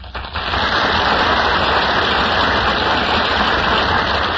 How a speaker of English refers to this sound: That applause, ladies and gentlemen, means that William Powell and Ginger Rogers are now entering from the wings of the Gulf Theater.